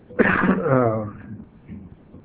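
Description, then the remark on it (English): A single harsh, raspy cough from a man teaching a class turns into a drawn-out throat clearing, fairly loud, trailing off into quiet with faint low rumbling afterward. “if my cough gets me tonight, you just finish the class, will you?”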